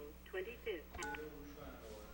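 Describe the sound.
Short electronic beeps from a phone keypad being dialed, two or three quick tones in succession, with faint background noise and a bit of muffled voice around them.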